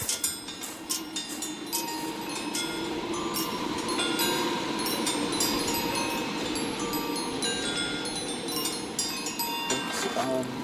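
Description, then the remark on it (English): Metal wind chimes of triangles and hoops ring continuously, with bright, overlapping high-pitched tones and clinks over a steady breezy rumble, some strikes sharper and louder than others. “And we have these kind of triangles and hoops that when the wind blows make this kind of nice chiming noise.”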